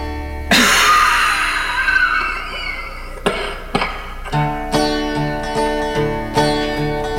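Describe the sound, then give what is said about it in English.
A voice imitates the long, harsh, raspy cough of a cotton mill worker, followed by two short sharp hacks, then gives way to steady rhythmic music with sustained tones. “And every time Sarah come out of that cotton mill, she'd be coughing something like...”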